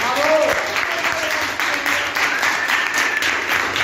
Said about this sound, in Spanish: I des de l'IES Ronda, doncs, jo crec, per tota l'audiència de la cadena COPE, jo crec que podríem fer un aplaudiment, no?